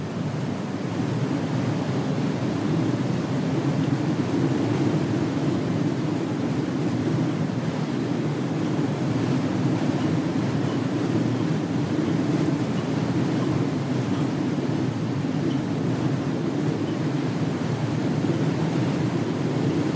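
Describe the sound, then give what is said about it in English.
A steady, unbroken drone of freshened wind moaning around the structures of a tower building, with a low whistling hum under a broad rushing roar, holding at an even, fairly loud level throughout, with no voices. “So you might retreat to the shelter of the tower, listening to the wind play its whistling drone around the structures of the building.”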